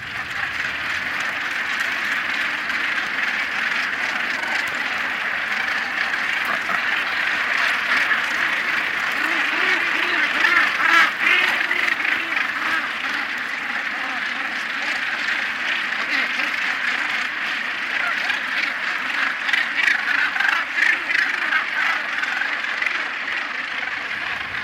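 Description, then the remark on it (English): The world's largest northern gannet colony, on a rock not far from Edinburgh, calling at once: a dense, unbroken wall of harsh, grating cries from tens of thousands of birds, steady and loud throughout with slight surges in intensity. “here's a wee snippet of the sound and a wee bit of … as we encountered the world's largest colony of northern gannets”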